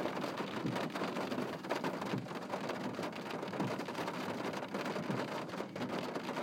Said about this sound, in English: Anyway, there you go. Mad rain in Northern Ireland.